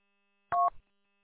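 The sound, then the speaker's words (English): A single short two-tone beep from a phone keypad, a steady dual-pitched electronic tone lasting about a fifth of a second, followed by a brief soft thump, with silence around it. “I'm messing around with my phone.”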